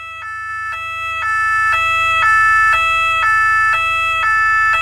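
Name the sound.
ambulance siren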